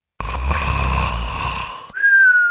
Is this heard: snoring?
yes